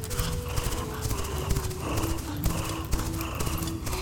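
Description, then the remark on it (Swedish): Steady clip-clop of horse hooves, fairly loud, with a sustained whinny drawn out across the whole stretch, as a rider tries to ride the horse while dragging a bear along the ground. “Och så försöker du rida iväg med hästen och björnen släpande längs marken.”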